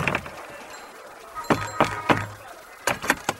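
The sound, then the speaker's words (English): Knocking on a door: a set of three firm knocks, a short pause, then another quicker set of three, fairly sharp. “Ah, there's a door there. I'll knock on that one.”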